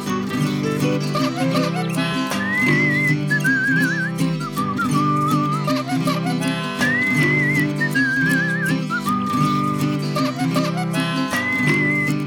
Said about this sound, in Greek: Χαρούμενος περπάταγε σφυρίζοντας με χάρη με το καρότσι του κουτσό αφού είχε κλατάρει.